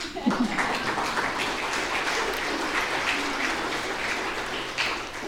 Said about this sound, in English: I think you can clap if you want to.